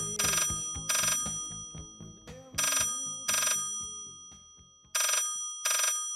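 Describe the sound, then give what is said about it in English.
A telephone rings in the classic double-burst pattern as an accounting firm calls its office chair supplier in 1983: three pairs of bright, jangling rings with pauses between, loud, over a faint low background hum. “So I rang our supplier of office chairs”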